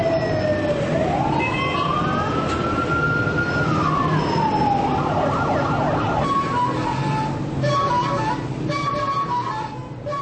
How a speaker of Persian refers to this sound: در این صدا هیچ چیزی نیست جز روزمرگی. روزمرگی زندگی در شهرهای شلوغ.